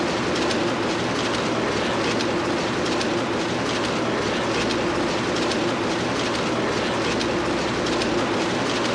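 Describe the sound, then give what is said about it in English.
A cracker wrapping machine runs steadily, wrapping stacked graham crackers in a kind of wax paper; a dense mechanical clatter with a low droning hum and quick repeating clicks, loud and unbroken throughout, with no voices. “And after they're stacked, what this machine is doing now, wrapping. Wraps them in a kind of wax paper.”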